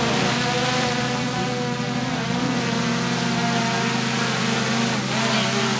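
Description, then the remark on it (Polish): Four multirotor drone motors, arranged as on a quadcopter, spin three-blade propellers with a steady, loud, droning buzz and whine, continuous throughout, with no voices. “Na czterech stronach, tak jak w kwadrokopterze, mamy silniki z tak naprawdę śmigłami trójłopatowymi.”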